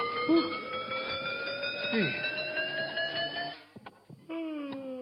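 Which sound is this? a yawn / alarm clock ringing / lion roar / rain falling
alarm clock ringing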